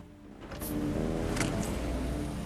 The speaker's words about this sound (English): A silver car turns onto a street, drives slowly along it, and pulls in at the curb.